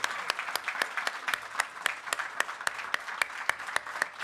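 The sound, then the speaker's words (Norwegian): Audience applause with steady, dense clapping from many hands, sharp individual claps standing out in a quick irregular rhythm at moderate volume throughout. “Applaus”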